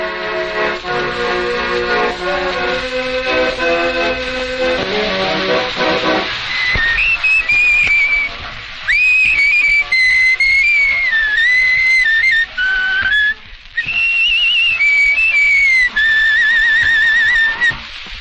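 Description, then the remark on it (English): After a few seconds of reedy, accordion-like chords, a person whistles a wandering melody clearly, the tune rising and falling in sustained notes with brief pauses. “Accordions, whistling, and all.”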